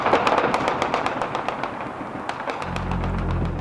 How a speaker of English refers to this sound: That's what it sounds like when Russian drones strike targets in Kiev.